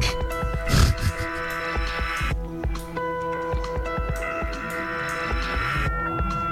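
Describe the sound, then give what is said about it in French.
An electric fan hums steadily, a continuous droning tone with layered whine running throughout, broken only by a few soft low thumps. “Tu veux pas qu'on change de place, Quentin? Non, non, non. Pour le ventilo?”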